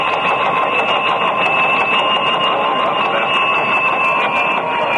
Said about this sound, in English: I want you to hear these bells. Another flash is coming in on the normal United Press wire now. Listen.